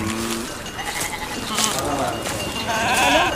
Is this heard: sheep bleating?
yes